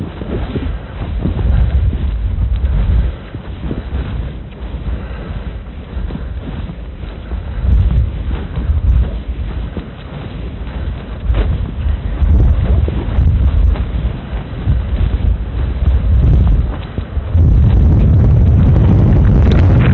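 Strong wind from the north buffets the microphone in heavy low rumbling gusts, steady and loud throughout, with an even harder blast near the end. No voices are heard.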